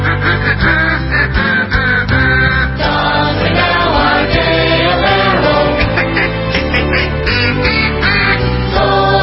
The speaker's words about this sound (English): Needs in their stocking this Christmas, so a little duck call.